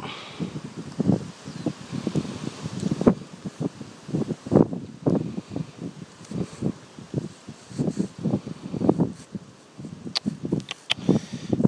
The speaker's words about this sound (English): Ooh! Drafty coming through the gap. Oh, Vindig. Bit windy.